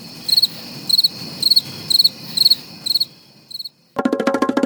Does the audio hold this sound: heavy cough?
no